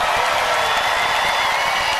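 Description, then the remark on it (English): A crowd cheers and applauds in a steady, dense roar of clapping and voices that holds at an even, loud level for about two seconds without letting up. “Come on, people, let's make some noise.”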